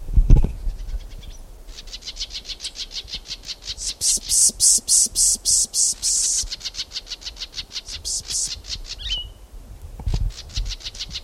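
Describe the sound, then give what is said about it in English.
Three solitaries calling in a fast, steady series of high, pulsing notes that swell louder in the middle and carry on for several seconds, with a brief chirp breaking in near the end; no one speaks. “Three solitaries here.”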